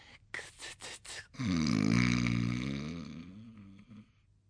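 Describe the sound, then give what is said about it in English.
A few quick breathy sniffs, then one long, low, rumbling snore that swells and slowly fades out, with no talking. “He's snoring.”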